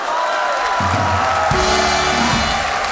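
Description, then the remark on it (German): A crowd cheers loudly and continuously, a dense roar of many voices with whoops rising through it, steady for several seconds with low rumbling underneath. “Das Volk jubelt.”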